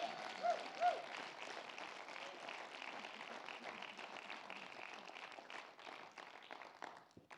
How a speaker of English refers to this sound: And give the Lord a clap like God heals people.